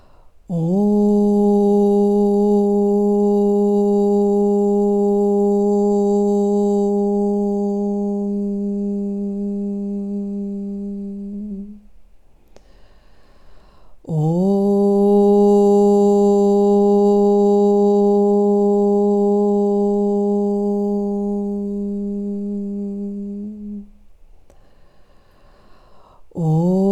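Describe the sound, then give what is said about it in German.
A single voice hums a loud, steady low note for about ten seconds, pauses briefly for breath, then hums the same long sustained tone again, slowly fading at the end. “Ich versuche es nochmal so laut, dass ihr euch alle traut zu summen.”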